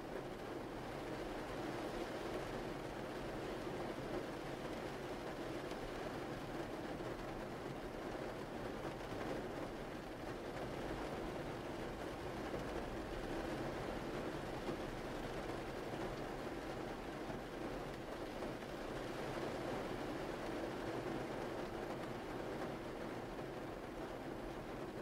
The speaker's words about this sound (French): Continuez de vous laisser bercer par le son de la pluie en portant votre attention à présent sur votre respiration.